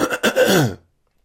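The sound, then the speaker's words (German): A single rough throat clearing that rolls into a short cough-like rasp, loud and alone, then cuts off to silence. “Dieser Husten zum Beispiel hier.”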